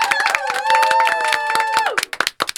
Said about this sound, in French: On peut l'applaudir. Bravo.